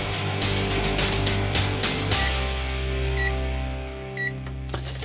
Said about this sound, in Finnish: Se on mikroaaltouuni ilman tuotemerkkiä tällä kertaa.